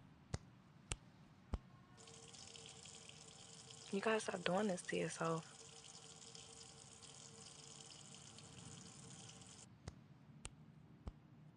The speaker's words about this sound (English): Here, I'll help you clean it up. Go run this under some hot water.